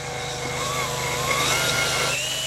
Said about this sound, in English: She uses a coring device attached to a cordless drill. Easy peasy.